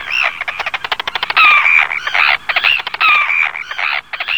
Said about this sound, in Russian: Знакомься, полярные крачки перед нами.